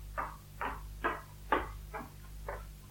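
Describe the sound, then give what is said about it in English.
Someone bangs on a front door with six evenly spaced, firm knocks about half a second apart, the last few slightly softer, over a faint steady background hum. “It's someone banging on the front door.”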